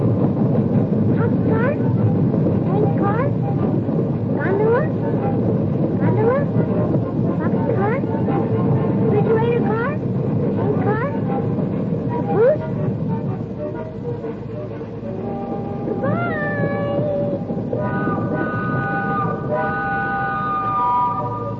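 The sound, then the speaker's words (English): A freight train rumbles steadily past, its wheels clacking rhythmically over rail joints, with high metallic squeals rising toward the end. “used to call them out as he watched a freight train go by.”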